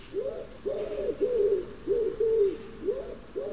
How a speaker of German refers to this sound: Ich glaube, die Taube bestätigt jetzt gerade.